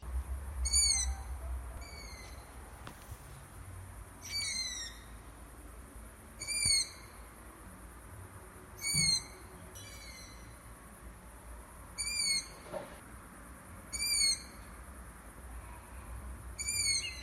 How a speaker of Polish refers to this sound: Ten głos to nic innego jak młode uszatki, które domagają się karmienia.